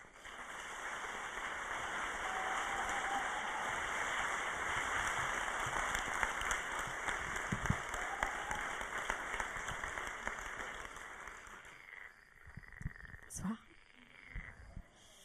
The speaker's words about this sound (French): Merci de l'applaudir très fort, ….